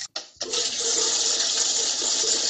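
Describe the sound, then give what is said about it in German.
The toilet in a school principal's bathroom flushes with a short click and a brief pause, then a loud, steady rush of water that keeps going to the end without fading. “Eddie geht aufs Klo der Schulleiterin.”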